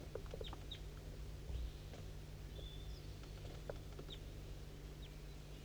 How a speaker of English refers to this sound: It's pretty foggy and I can't really tell what's going on. That's 5-3 calling to it. It's 8:15 a.m. I'm pointing towards a wild bird. It's down the hollow, straight west.